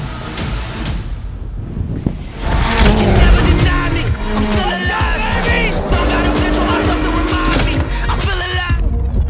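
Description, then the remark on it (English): A loud, roaring race car engine with rising and falling pitch sweeps, mixed with gritty skidding and tire noise as driver Cody Jones's car slides on dirt in a professional race at Indianapolis Motor Speedway, continuous and dense throughout, briefly dipping near the start. “Entering his first professional race at the one and only Indianapolis Motor Speedway.”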